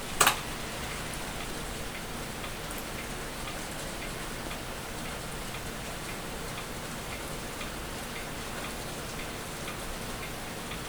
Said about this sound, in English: Listen to the sound of the rain while I'm working here.